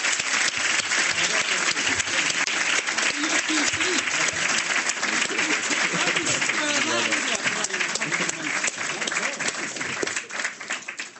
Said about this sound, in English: Anyway, look, I'd like to thank you all for coming this evening, and if we could all give our panel a round of applause.